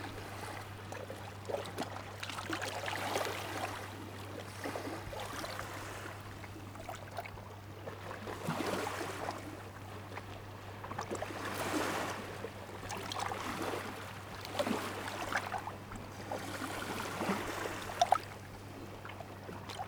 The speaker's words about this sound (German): Ich lausche dem satten, selbstgenügsamen Planschen seichter Wellen.